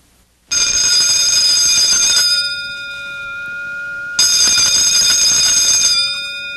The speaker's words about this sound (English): Hear that bell, and there I go.